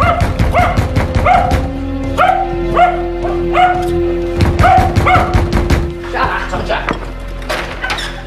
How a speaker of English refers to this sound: Jarvis wakes in his bed as he hears the pounding and the barking.